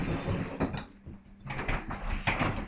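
A door opens as someone enters, with a rattling, mechanical scrape and a few sharp clicks, moderately loud, with a brief quieter lull partway through and no talking.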